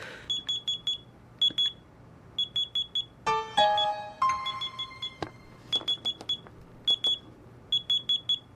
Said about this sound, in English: The clothespin. The clothespin closes the circuit and makes the buzzer buzz. Like this.